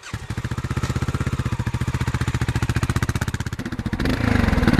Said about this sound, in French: Ça ne vous rappelle pas quelque chose? Ce gros mono, il est issu d'une moto qu'on connaissait bien, qui était la Dominator 650. Maintenant, il est exploité dans une toute autre moto.